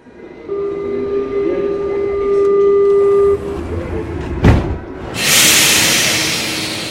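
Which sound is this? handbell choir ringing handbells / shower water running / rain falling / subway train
subway train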